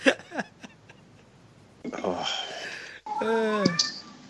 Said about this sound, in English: I heard a cat. Did you hear that? Yep. That was Una.